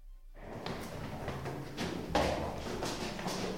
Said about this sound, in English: Now through a rather more grand wooden door. I have no idea where this is going to end up.